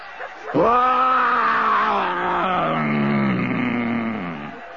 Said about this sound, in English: Off my back, children. Stand back. I'm going to roar again.